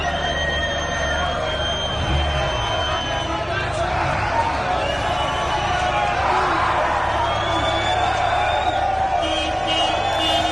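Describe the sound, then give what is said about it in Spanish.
A loud, dense crowd of hundreds of young people at a street drinking gathering in the Plaza del 2 de Mayo, blocking a garbage truck's access, fills the whole clip with overlapping shouts, chatter and occasional cheers, a steady roar of many voices without pause. “Este es el momento en el que los jóvenes congregados en la Plaza del 2 de Mayo impedían el acceso a un camión de la basura.”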